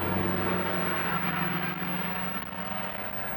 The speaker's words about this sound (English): sometimes, you know, this passing traffic makes a difference. Yeah, it might.